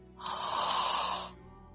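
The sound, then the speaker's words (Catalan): A single long, breathy yawn lasts about a second, airy, rising quickly and then fading out, while stretching the arms back with a sigh. Nobody speaks. “I estirem els braços enrere. Amb un sospir, un badall.”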